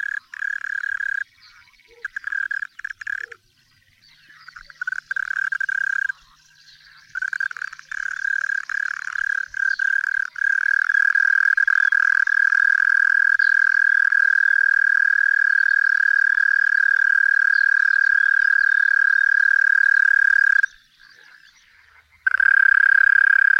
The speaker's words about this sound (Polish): A tutaj usłyszymy turkucia, który jeszcze dobrze się nie rozegrał. Stąd jego marna, rwana piosenka.